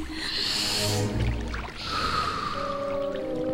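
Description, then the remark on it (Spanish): One slow, deep breath done as a breathing exercise: a long airy inhale, a brief pause, then a long breathy exhale, clear over soft steady music. “Respira profundamente. Así.”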